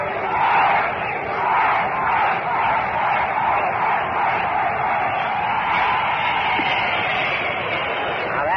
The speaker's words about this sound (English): went out there in a deep center field to lead the bleachers into a cheer. I think he's getting ready now to get them started again, so let's listen to it.